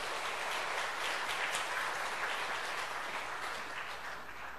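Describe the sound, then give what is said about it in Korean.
A crowd applauds steadily to welcome a missionary, a warm, dense wash of clapping that holds for several seconds at even strength, then begins to ease slightly toward the end, with no voices over it. “우리 박수로 한번 환영하도록 하겠습니다.”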